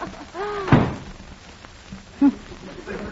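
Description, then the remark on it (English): At City Hall, one of two doors creaks open with a rising, squeaky groan, then slams shut with a loud thump, followed by a second, softer knock a moment later. “There's two doors here. I'll just try this one.”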